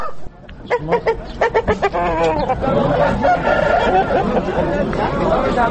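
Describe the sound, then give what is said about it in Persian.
Kalangi chickens, a breed kept in Afghanistan, cluck in a quick burst of short, sharp calls, then a Kalangi rooster crows in a long, wavering call as clucking and chatter of the flock continue. “تربیت مرغ کلنگی در افغانستان سابقه داشته و صاحبان مرغ به همه خصوصیات آن آشنا هستند”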